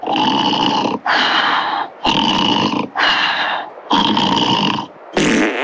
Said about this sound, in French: Ah bah oui, je ronfle. Et pas que, hein, de toute évidence.